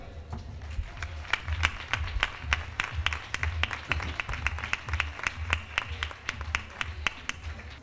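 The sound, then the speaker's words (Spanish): A crowd inside a caseta applauds steadily for several seconds at an evening sung-word event broadcast on Radio Parapanda, with many overlapping sharp claps forming a dense, even patter over a low murmuring rumble. It keeps roughly constant loudness throughout. “pues yo he hecho las presentaciones de rigor, y para que los oyentes de Radio Parapanda puedan tener medianamente una idea del calor y del color que vamos a tener dentro de la caseta esta noche, yo les rogaría que les dedicáramos este fuerte aplauso.”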